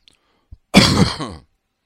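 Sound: coughing and throat clearing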